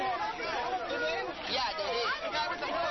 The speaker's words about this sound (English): And as the crowd outside the theater expressed their outrage, a lone member of the audience expressed his as well.